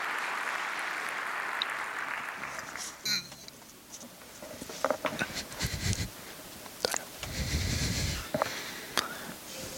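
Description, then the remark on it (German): A few seconds of steady, hissing applause from an audience welcoming a presenter at a talk on where video game sounds come from, then a looser stretch of scattered claps and breathy, sniffing noises with brief bursts. “Also einen großen Applaus für kleines Filmröllchen, bitte.”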